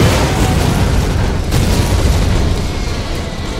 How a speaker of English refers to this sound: Crackling in flames, the demolished Warwag sat there for a few calculated seconds, just long enough to draw an enemy closer, and then the self-destruct charges welded inside its sturdy frame detonated.